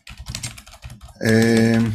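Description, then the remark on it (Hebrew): Quick, uneven keyboard clicks as someone types a work-related message, lasting about a second before a voice comes in with a loud, steady, drawn-out vocal sound that covers the rest. “תן לי רק לשלוח פה איזו הודעה שקשורה לעבודה, משהו.”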